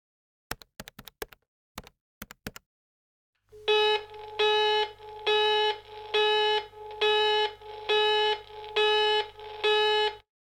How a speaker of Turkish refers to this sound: Meşgul çalıyor.